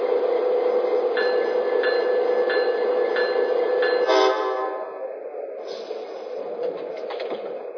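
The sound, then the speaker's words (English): Passenger train number 370 from Chicago rumbles into the St. Joseph–Benton Harbor station on track 2 with steady, regular clacks of wheels over rail joints, then a brief screech as the noise eases and grows quieter. No one speaks. “from Chicago on track 2, train number 370, the Bear Marquette.”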